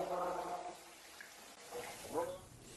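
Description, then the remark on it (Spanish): Water pours steadily from a tap, the water people are given to drink, a continuous hiss with uneven splashing, while a voice briefly speaks beneath it. “Si quieres tomar agua, esta es el agua que se toma, mira.”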